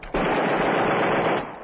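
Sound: gunfire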